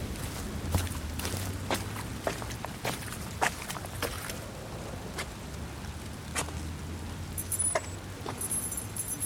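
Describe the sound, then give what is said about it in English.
Steady footsteps of someone who has got out of a car walk at an even pace through falling rain to his door, each step a soft, wet thud over a constant hiss of rainfall, with a faint metallic jingle near the end. No one speaks. “Someone then exits the car, which we assume is Frank, and walks in the rain to his door.”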